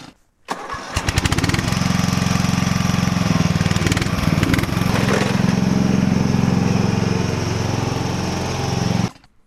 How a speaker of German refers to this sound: So, das war ein Aufsitzrasenmäher, nämlich ein Sabo 9213H. Man muss ihn nicht schieben, sondern man kann drauf sitzen und mit ihm fahren. Er wird für großflächige Wiesen genutzt, um diese abzumähen.